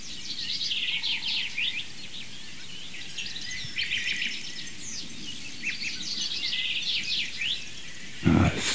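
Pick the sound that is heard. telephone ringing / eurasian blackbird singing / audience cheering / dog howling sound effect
eurasian blackbird singing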